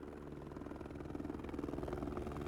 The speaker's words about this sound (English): A police helicopter! We're saved!